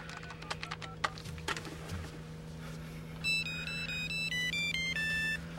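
phone ringing

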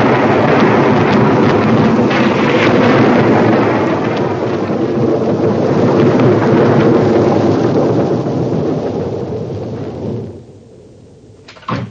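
rain falling

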